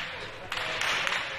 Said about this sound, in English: Sounds like crackers going off, huh? That was a gunshot.